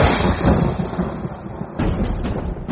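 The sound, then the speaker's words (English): Two trees in the courtyard of Nanda Maharaj's house come crashing down as Krishna pulls his wooden grinding mortar stuck between them, with a loud, thundering roar: a deep continuous rumble punctuated by a few sharp cracking bursts toward the end, heavy, with no voices. “The 2 trees fell, making a loud thundering sound.”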